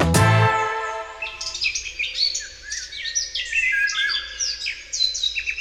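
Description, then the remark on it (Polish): Several birds sing, chirp and flap their wings busily outdoors in spring at the Lublin Open-Air Village Museum (Muzeum Wsi Lubelskiej), a dense layer of bright, overlapping calls running throughout, with a short low tone at the very start and no talking. “Ptaki śpiewają. Nie tylko śpiewają, ale trzepią skrzydłami.”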